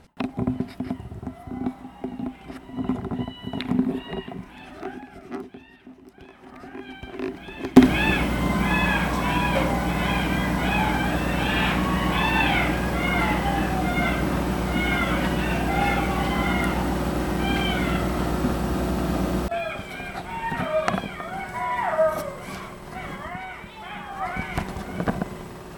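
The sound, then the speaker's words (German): A chorus of young coyotes yipping and howling: many high, wavering calls overlap densely for about twelve seconds, loud and continuous, with a person talking before and after. “Die kleinen Kojoten.”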